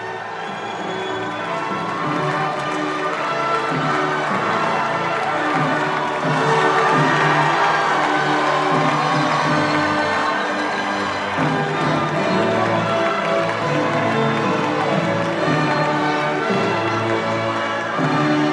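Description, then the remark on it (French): A large crowd at a victory rally at the Louvre cheers and shouts without pause as Emmanuel Macron greets them with raised arms, a loud, dense roar of many voices that swells slightly midway and stays strong throughout, with no single speaker standing out. “salue la foule au Louvre.”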